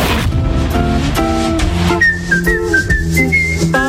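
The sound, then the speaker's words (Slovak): A clear, high whistled melody enters halfway through, stepping between notes over steady instrumental backing music that plays throughout at a fairly loud level. “Keď si človek píska, je to také veselé, alebo občas, keď má strach.”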